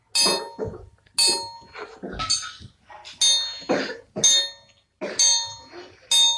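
Church bells chime at 7 in the evening in a steady series of about seven loud, ringing strokes, roughly one per second, each with a bright metallic tone that hums and fades before the next.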